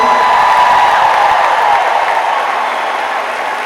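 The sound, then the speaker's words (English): An audience at a touring band's concert applauds a singer being introduced, in a dense, steady wash of clapping that holds loud for several seconds, then eases off slightly toward the end. No one speaks. “Y'all give it up for ….”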